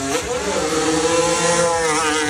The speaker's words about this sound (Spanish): Ya rugen los motores de la Fórmula 1.